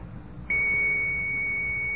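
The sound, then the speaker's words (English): A computer dial-up modem tone starts abruptly after a moment of low background hum, then holds as a steady, piercing high-pitched whine at constant loudness with no speech. “See, that's a computer modem.”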